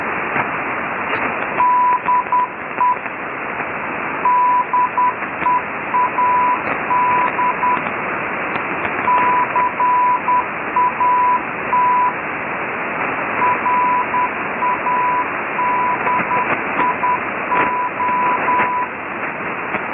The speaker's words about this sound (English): Lex also dropped off Dead Cat Radio, 6925 upper sideband, 0600 UTC, the 25th of April. This is the sign-off of Dead Cat Radio with the ID in Morse. Take a listen to Dead Cat Radio.